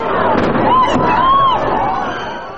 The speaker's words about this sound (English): But as you can already hear, it's not one explosion, it's two explosions. A whip-crack explosion just before the word "my," and a thudding boom just before the word "God." So, two explosions and not one.